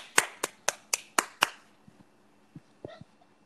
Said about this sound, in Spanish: Bien, un aplauso, coño.